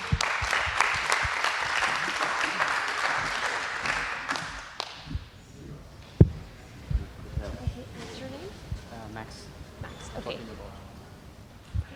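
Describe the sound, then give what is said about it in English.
An audience at a talk event bursts into steady, dense applause after a speaker finishes, filling the first few seconds, then thinning out and fading, giving way to quieter murmuring and a voice. “Could we get another applause?”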